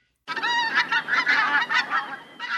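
A flock of pink-footed geese calls in a dense, overlapping chorus of high, yapping honks, fairly loud and continuous, with a brief lull just before the end.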